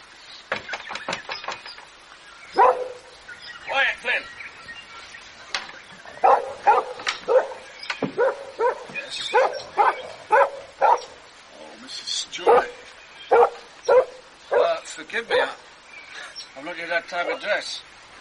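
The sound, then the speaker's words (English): A dog barks repeatedly in sharp, irregular, loud bursts, with some higher yips mixed in across the whole stretch. “Is this your dog?”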